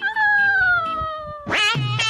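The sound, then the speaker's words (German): A cat gives a long, drawn-out meow that slowly falls in pitch, then two short, sharp yowls follow in quick succession, loud and harmonic with no talking. “Boah, jetzt kommt hier eine Katze.”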